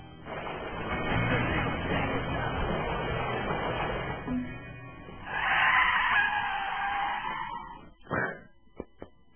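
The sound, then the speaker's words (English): A car chase: a rumbling engine roar gives way to a long, high-pitched tire screech as the car skids, followed by a few sharp bangs and thuds. “First off, the car chase scene rocked.”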